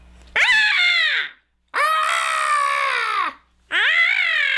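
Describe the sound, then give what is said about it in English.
A person imitates a goat with three loud, quavering bleats, each a strained, nasal cry that wavers and drops in pitch at the end, separated by short silences; the last one is cut off. “How about a goat?”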